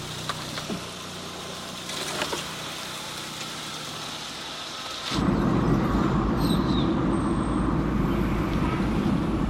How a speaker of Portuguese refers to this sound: Laerte tira o carro da vaga, em meio a uma vegetação densa na calçada.